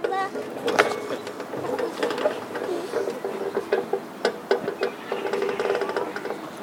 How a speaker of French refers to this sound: Maintenant, le bruit du grincement du poteau de la balançoire.